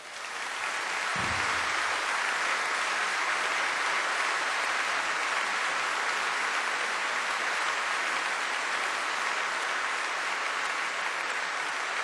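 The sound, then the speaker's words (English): A crowd applauds a singer steadily, a dense, even wash of clapping that holds at full strength for about twelve seconds without voices. “Please, a round of applause for ….”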